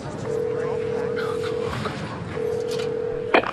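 telephone dialing tones

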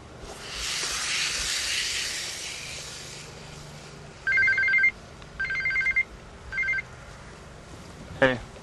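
cell phone ringing

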